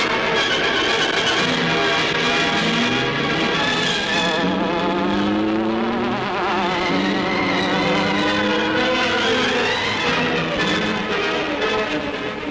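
The Green Hornet's getaway car speeds off with a loud, continuous buzzing hum whose pitch swoops up and down like a droning insect, sustained throughout with no voices.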